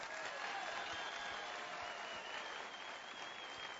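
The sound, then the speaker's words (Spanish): Steady audience applause, a dense wash of clapping hands that holds at an even level for a few seconds, with faint crowd murmur and a hint of a voice underneath. “Dale un aplauso como ella se lo merece.”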